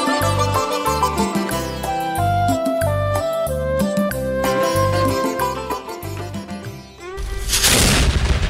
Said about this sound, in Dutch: Op vrijdag 13 oktober rond 6 uur 's morgens meldde het kanon van ons schip dat we in Hongkong waren.